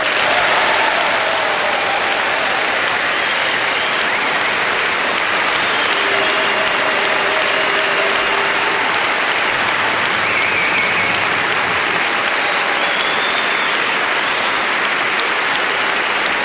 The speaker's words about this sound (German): Wir grüßen jetzt einmal pauschal alle 664 Orte mit einem kräftigen Nürnberger Applaus.